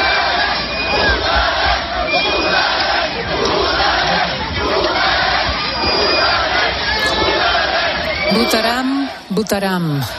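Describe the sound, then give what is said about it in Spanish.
Catalan independence supporters in the streets chant 'Votaremos' (we will vote) in unison ahead of the 1 October referendum: a large crowd, loud and steady with a rhythmic, repeating cadence, voices blending into a dense roar; near the end a single higher shout rises above the mass. “Votaremos, gritaban.”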